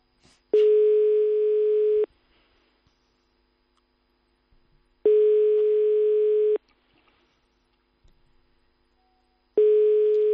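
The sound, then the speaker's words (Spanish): A telephone ringback tone from a call to a landline repeats unanswered: three long, steady, mid-pitched buzzing tones, each about a second and a half, separated by roughly three-second silences, with no voices. “Si es que nadie coge los fijos.”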